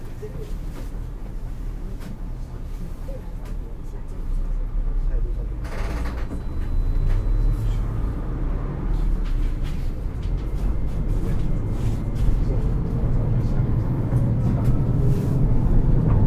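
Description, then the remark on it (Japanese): Steady low engine rumble and road noise inside a moving bus, with a brief hiss partway through and indistinct voices faintly beneath the continuous drone, and a Japanese onboard announcement asking alighting passengers to mind their step, to switch phones off or to silent mode, and saying the bus stops next. “お降りの方は、足元にご注意願います。車内での携帯電話については、電源を切るか、マナーモードにして、通話はご遠慮ください。次、止まります。”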